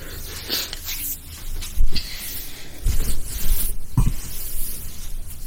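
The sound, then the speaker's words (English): Several short hissing bursts of a spray bottle, about a second apart, over a soft background of rustling and shuffling noise. “What spray? You don't need spray, you're going home.”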